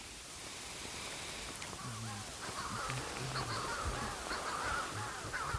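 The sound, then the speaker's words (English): A Manx shearwater's harsh cry repeats in quick short bursts, coming in clusters over a steady hiss of background noise, with more calls overlapping toward the end. “I mean, the cry goes da-da-da, da-da-da.”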